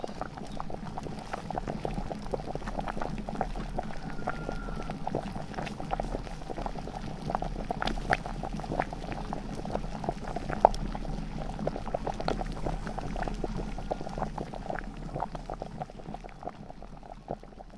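A pot of salted water with eggplant, halved or whole, boils steadily for about 15 minutes of cooking, a dense, continuous bubbling with scattered pops and crackles for the whole stretch, no voices.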